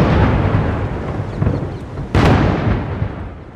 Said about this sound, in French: Emmanuel Macron a été accueilli avec des coups de canon traditionnels.